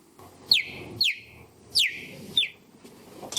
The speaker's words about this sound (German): Also das ist kein kleines Vögelchen, das ist wirklich ein Gepard, die fiepen so.